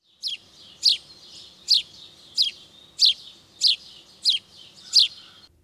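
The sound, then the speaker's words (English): A house sparrow chirps repeatedly, sharp bright notes at a steady pace of roughly one per second, eight in all, clear over a faint background hum. “House sparrow.”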